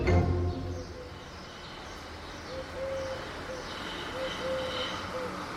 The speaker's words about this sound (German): Bunter Vogelgesang inmitten eines Häusermeers, in dem normalerweise immer Mopeds um die Ecke knattern und Automotoren brummen. Ein einmaliges Hörerlebnis in Corona-Zeiten. Im griechischen Thessaloniki.